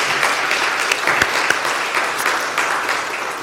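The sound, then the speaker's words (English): An audience applauds steadily for a member's high school graduation, a dense, crackling wash of many hands clapping at an even loudness throughout, with a few sharper claps standing out from the crowd. “Can we just applaud for Grant and give thanks to the Lord?”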